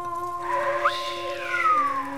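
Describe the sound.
A sliding, whistle-like tone rises and falls over a steady humming drone, with a second drawn-out descending whistle near the end. No one speaks.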